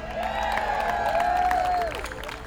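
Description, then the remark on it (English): A crowd in Nelson County claps and cheers steadily throughout for a local band, with a long rising and falling whistle cutting through the applause. “A big Nelson County round of applause for the Nelson County locals, ….”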